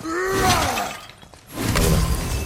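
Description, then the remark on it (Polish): A video game clay jar shatters in a bright, crunchy burst of breaking pottery, following a short stretch of tonal game sound effects, with no one talking. “Ja muszę teraz chyba te dzbany rozbijać, żeby zdrowie zbierać, słuchajcie.”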